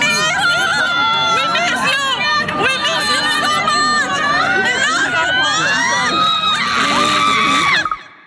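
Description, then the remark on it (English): A crowd of fans cheers and shouts nonstop as Paul rides past them, with high-pitched screams and overlapping excited voices filling the whole stretch before cutting off abruptly at the end. “This is a recording and this is what excitement and love sounds like.”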